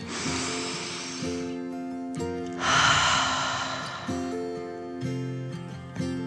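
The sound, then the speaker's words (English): Two long, airy breaths, a deep inhale and then a slow exhale, rush loudly over soft, steady background music with sustained tones. “Daisy needed a better sniff, so the little dog took a deep dragon breath in and”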